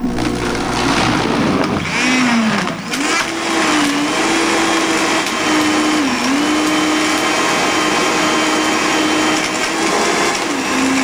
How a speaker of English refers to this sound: And the great thing about using a blender is you don't have to own a juicer.